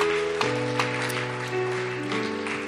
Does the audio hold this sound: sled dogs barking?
no